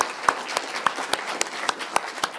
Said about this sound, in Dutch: Applaus.